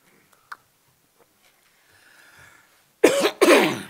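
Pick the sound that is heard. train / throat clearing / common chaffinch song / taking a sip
throat clearing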